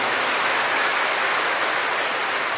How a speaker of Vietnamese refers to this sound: Nghe anh chị em từ những giáo xứ khác đến đây, chúng ta thay lời cảm ơn ấy bằng một tràng pháo tay nồng nhiệt thưa anh chị em, thưa các bạn.